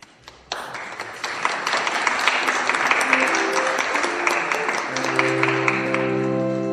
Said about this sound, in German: wir haben für dich geklatscht.